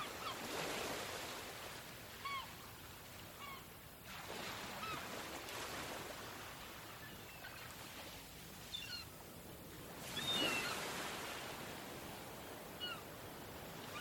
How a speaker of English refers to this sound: The sound of waves that reach the coast is really comforting.